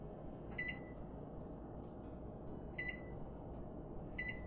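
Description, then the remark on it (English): A microwave oven thawing frozen chicken for another 2 minutes runs with a steady, low droning hum, broken by three short, high-pitched electronic beeps spaced a couple of seconds apart. No one speaks. “So I'll nuke it for another 2 minutes.”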